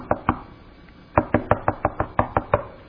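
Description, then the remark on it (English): Two sharp knocks, a short pause, then a quick run of about eight firm raps on a door, loud with no voices. “What do you do when you hear that at home? Man, most times somebody will make a beeline for the door.”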